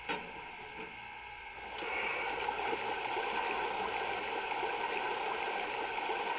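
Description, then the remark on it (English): Water rushes steadily into a boiler, the flow surging up after a brief quieter moment and then holding a continuous, hissing, gurgling roar with a low mechanical hum underneath; no one speaks. “We need to take on some water.”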